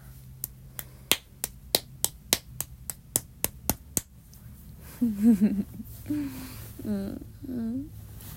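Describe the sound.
About fifteen light, sharp slaps of gentle spanking land in a quick, steady rhythm for four seconds, then stop, and a voice makes wavering vocal sounds over a low background hum.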